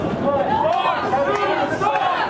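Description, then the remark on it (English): A loud, boisterous crowd shouts and chants "Fox News sucks" together, many voices blending into a steady, dense roar with rising and falling vocal tones throughout. “But a loud and very boisterous crowd, you'll start here and then start up here.”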